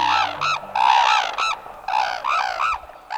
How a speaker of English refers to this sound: On a snow-covered field in northern Japan, two majestic red-crowned cranes face one another, raise their heads toward the sky, and call in unison. The slender cranes stand more than 5 feet tall.